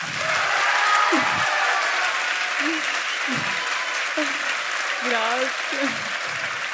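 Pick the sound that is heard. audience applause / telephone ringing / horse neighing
audience applause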